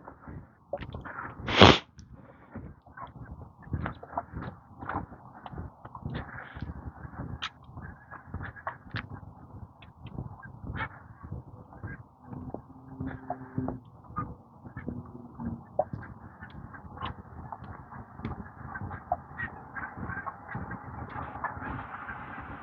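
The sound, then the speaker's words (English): A flock of geese flying over in strings honks continuously overhead, many overlapping calls in a busy, uneven chorus, with one sharp loud burst near the start; no one speaks. “Some more geese coming.”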